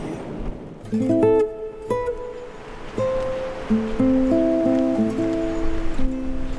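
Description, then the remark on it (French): The Segre river, a tributary of the Ebro, flowing outdoors across a plain of olive and almond trees, a steady broad rush of water running the whole time, with sustained tonal notes rising and stepping above it. “Dans ce coin coule une rivière, c'est le Segre, un affluent de l'Èbre.”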